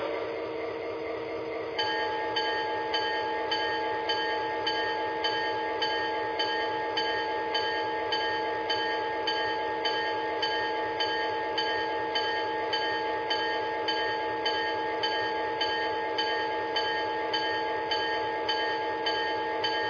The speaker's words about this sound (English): You are on a winter train.